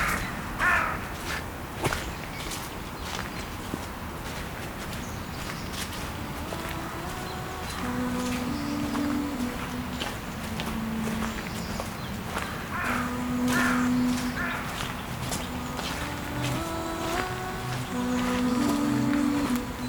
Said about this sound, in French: Quelques oiseaux dans les champs diffus.